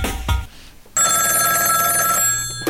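A telephone bell rings loudly and continuously after a brief thud, its bright metallic trill sustained for nearly two seconds with no voices present.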